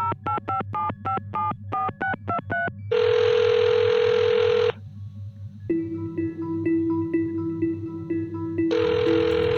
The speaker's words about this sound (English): Over here, Dr. Gordon's desk phone. Great. Call Mr. Richmond. Use the direct line.